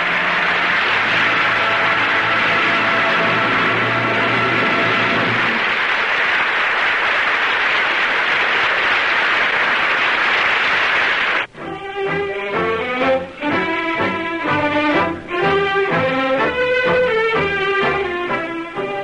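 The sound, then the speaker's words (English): A large theater audience applauds the performance of Francho Tone and the cast on the radio program Cavalcade of America, in a steady, dense wash of clapping for about ten seconds, then an orchestra swells in and carries the rest without the crowd. “I'm sure our radio listeners joined the audience in the theater tonight applauding the performance of Francho Tone and the others in tonight's cast on the Cavalcade of America.”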